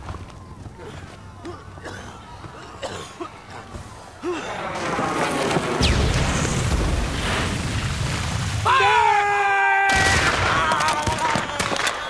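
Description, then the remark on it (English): Heavy cannon fire booms during a riot, in a chaotic, noisy scene, with blasts and rumbling growing louder after the opening seconds and voices faintly mixed into the din. “Artillery was used during the riot. It didn't. The heavy did not come off of ships. However, it was from cannon.”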